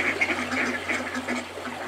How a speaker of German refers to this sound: Eine große Schar von Enten hat sich auf dem Bach versammelt und macht ein bisschen Lärm.